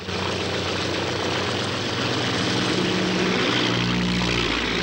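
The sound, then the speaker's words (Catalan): A small propeller airplane takes off between mushroom-shaped rock formations, its engine droning loud and steady with a rising, buzzing tone as it accelerates; no voices are heard. “Una avioneta s'enlaira per entremig dels bolets.”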